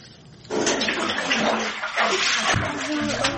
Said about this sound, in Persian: سه سال می شود وظیفه این کودکان آبکشی از زیر خانه هایشان است. این کار را کودکانی 17 خانواده در دهه حیات نوی جماعت خراسانی ناحیه فرخور اجرا می کنند.